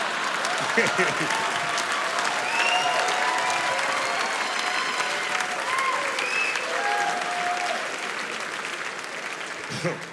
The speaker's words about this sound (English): I like how y'all just applauded child abuse, but whatever.